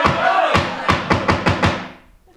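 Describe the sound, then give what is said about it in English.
A gavel bangs about six times in quick, fairly even succession, sharp, to quiet a crowd and call an MTA open house to order, over background crowd chatter that fades away as the knocking ends. “Now I can bang my gavel.”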